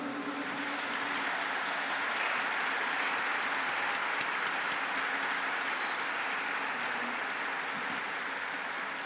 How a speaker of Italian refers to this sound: Un applauso ai 9 beati.